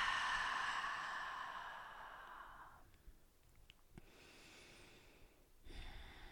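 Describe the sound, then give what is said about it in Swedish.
Deep breaths taken in through the nose and let out: a long, airy breath fills the first few seconds, followed by quieter breathing and a soft nasal inhale near the end, with no talking. “Och vi tar ett par djupa andetag in genom näsan och släpper ut det vi inte behöver.”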